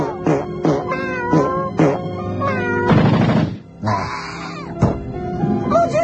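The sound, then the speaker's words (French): A cat named Carl, ordered to attack, yowls and meows loudly in a rapid string of drawn-out, wavering cries, broken midway by a harsh, noisy screech before the meowing resumes. “Mais Carl, un crétin de chat, il a 9 vies, c'est imbécile, il en profite à chaque fois.”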